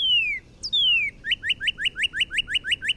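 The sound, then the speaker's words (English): Loud, clear Northern Cardinal song: a couple of long downslurred whistles, then a rapid series of about a dozen repeated chirpy notes, heard alone with no talking. “The Northern Cardinal.”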